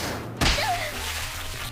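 A baseball thrown too hard during practice slams into a glove with one sharp, loud smack, followed by a brief whistling ring that fades into a quiet background. No one speaks.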